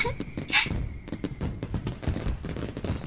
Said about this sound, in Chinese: 真的有烟花，好漂亮啊！我已经很久很久没有看到烟花了，上一次还是在老家，小时候过年的时候呢。